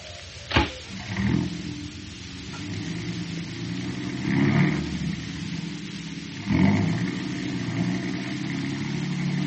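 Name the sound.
car engine accelerating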